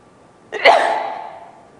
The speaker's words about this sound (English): Excuse me, I have to sneeze.